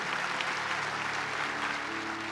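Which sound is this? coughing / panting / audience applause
audience applause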